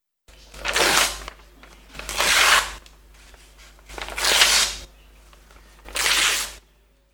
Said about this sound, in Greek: Σχίζω χαρτί.